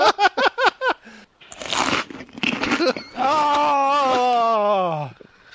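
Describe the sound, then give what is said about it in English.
Loud crunching of crunchy cheese balls in a couple of noisy bursts, preceded by short rhythmic vocal grunts and followed by a long, drawn-out groaning hum. “Oh, those are some crunchy balls. Cheese balls.”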